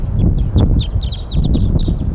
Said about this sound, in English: A flock is calling from the treetops. And more birds are coming in. They're all up on the top of the pine tree above where we've got the net set up now.